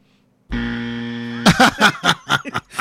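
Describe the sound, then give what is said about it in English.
A loud, flat electronic buzzer blares steadily for about a second, then cuts off as several quick bursts of laughter break out right after it. “You got to stop getting buzzed out”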